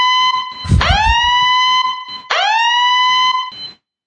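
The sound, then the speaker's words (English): An electronic alarm siren blares loudly in two bursts, each sweeping sharply up in pitch and then holding a steady, harmonically rich wail, with a brief gap between them. “In fact, I just read this morning, oh my gosh, wait, I should sound the alarm. Here it is.”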